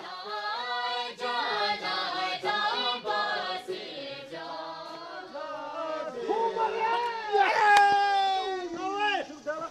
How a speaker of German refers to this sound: Auf einer Lichtung am Stadtrand der Hauptstadt Thimphu. Lauter Jubel ist zu hören. Es ist Sonntag und viele Bhutaner treffen sich zum Kudu, neben Bogenschießen, der Nationalsport des Landes.